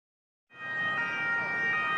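City street traffic noise in Rome, Italy, starts after a brief silence: a steady, fairly loud wash of passing vehicles with a siren wailing continuously above the rumble, as pedestrians bustle past a patch of derelict land.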